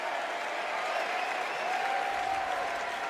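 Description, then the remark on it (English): A large crowd at the Democratic National Convention in Chicago applauds and cheers as Senator Tammy Duckworth of Illinois takes the stage, a dense wash of clapping with a faint sustained whistle or shout running through it, holding at an even, loud level throughout. “And the crowd loving on her.”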